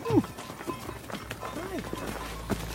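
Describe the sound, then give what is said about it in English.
Cows' hooves clop irregularly on hard ground as the animals walk into their shelter, with muffled voices murmuring in the background and a low steady hum throughout. “… can't relax until all the cows are in and the door is shut.”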